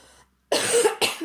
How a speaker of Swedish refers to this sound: Börjar hosta i micken.